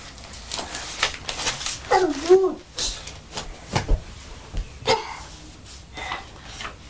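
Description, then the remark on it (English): A dog gives a few short barks and a brief whimpering whine, mixed with scattered knocks and a little background voice activity. “Doggy, shoy, shoy, doggy. Doggy, doggy.”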